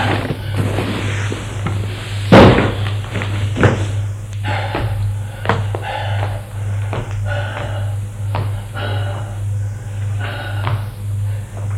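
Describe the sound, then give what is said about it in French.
A heavy Louis XV chest of drawers is dragged across a floor to block a door in several grinding, scraping pulls with occasional bumps. The dragging is fairly loud, over a steady low hum. “Il voit une commode Louis XV. Il la tire pour bloquer la porte.”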